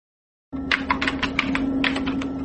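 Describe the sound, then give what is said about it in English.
Rapid, uneven clicking of keys on a computer keyboard as homework is written in a new document, clear, with a steady low hum underneath; the typing starts after a brief silence and continues without any talking. “Next, you write your homework in the New Document. Use the keyboard.”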